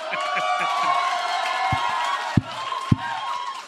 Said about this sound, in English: We haven't done anything. Stop clapping.